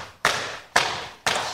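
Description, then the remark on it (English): Three heavy thumps land at an even pace about half a second apart, each hitting sharply and fading quickly, like someone mimicking a door being slammed. No one speaks. “slam the door on their way out.”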